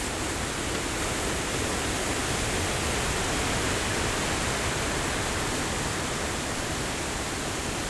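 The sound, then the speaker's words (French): Strong wind roars in the Low Tatras mountains in bad weather, a steady, dense rush of noise, hissing and rumbling at an even loudness for the whole stretch, with no voices and no clear gusts or pauses. “Car la météo est plutôt mauvaise. Beaucoup de vent.”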